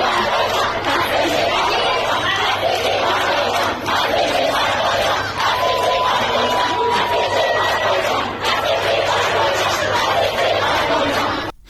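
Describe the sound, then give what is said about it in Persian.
A crowd of schoolgirls shouts and chants protest slogans in unison, including "Death to the Basiji," stopping a speaker who was lecturing them on wearing the hijab; loud and continuous, with overlapping cries and a steady low hum underneath throughout. “دانش آموزی رو نشون میده که با شعار مانع از سخنرانی یک فردی میشن که گفته شده که در لزوم رعایت حجاب داشته برای دختران سخنرانی میکرده، اما دختران دانش آموز و فریاد و شعار مرگ بر بسیجی مانع از ادامه سخنرانیش میشن.”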